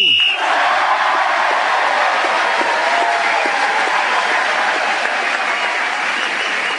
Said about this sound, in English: That applause was well-deserved.